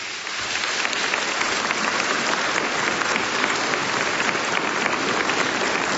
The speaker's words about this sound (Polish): W tym miejscu pragnę bardzo serdecznie powitać ojca Benedykta, który przybył do nas z Torunia. Przywitajmy go oklaskami.